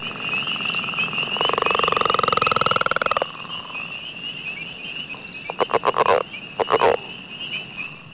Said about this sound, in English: Now to frogs. The leopard frog. I don't see much leopard spotted.